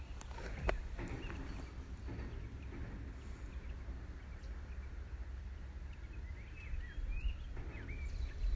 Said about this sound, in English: It is such a beautiful day. Lots of pretty happy birds around too.